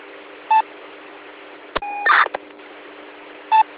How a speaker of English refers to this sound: So when you do that on Simplex, my radio decodes your MDC tones and displays it on the LCD.